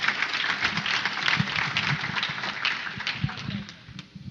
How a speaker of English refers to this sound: There you can clap for that.